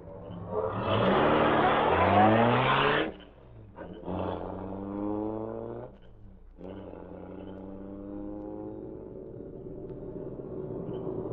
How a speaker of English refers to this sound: Car coming fast. Maybe a police, no doubt. Yeah, it is.